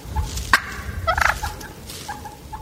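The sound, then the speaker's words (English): A wild turkey gobbles in a quick, rattling burst of high, warbling notes, a sharp call rising over a steady low outdoor rumble, with fainter chirps trailing after. “You know, the pressure gets off of them, and they'll go back to gobbling.”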